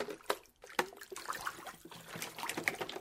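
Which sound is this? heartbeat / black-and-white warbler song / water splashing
water splashing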